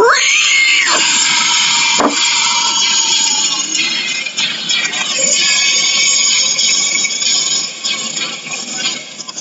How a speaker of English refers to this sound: Is that you? Dude, that's wild. Dude, you can death metal scream? That's fucking sick. That's crazy.